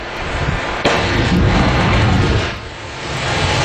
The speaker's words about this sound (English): And that explosion is the sound of the lightning hitting the water. The lightning hits the water.